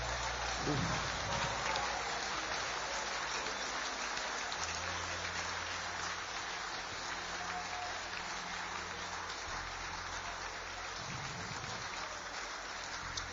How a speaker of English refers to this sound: Clap your hands and release a praise to your God.